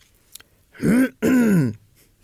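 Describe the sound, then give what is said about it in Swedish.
A voice imitates someone clearing their throat: two quick, gravelly ahem-like bursts back to back, fairly loud, with silence around them. “Och sen hör jag hur någon harklar sig.”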